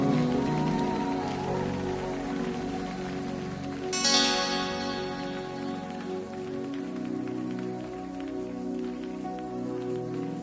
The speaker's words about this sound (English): Give a clap offering to this little girl.